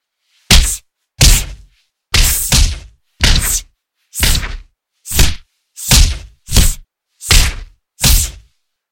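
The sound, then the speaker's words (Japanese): About ten light, muffled punches land on a person's face one after another in a fairly steady rhythm, short weak punches thrown without a big wind-up, each a soft thwack with a short swish. No voices are heard. “大きくは振りかぶることはできないから、威力は普通のジャブ以下ですけど、こういう弱いパンチを受けるの、むしろ気持ちいいんじゃないですか？”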